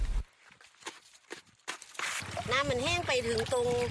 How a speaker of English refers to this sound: Panning for flecks of gold on the banks of the Mekong River in northeastern Thailand